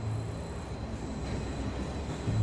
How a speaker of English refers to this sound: Tom watches a train pulling away from the station.